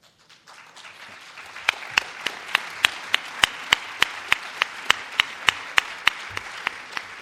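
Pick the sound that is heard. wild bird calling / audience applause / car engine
audience applause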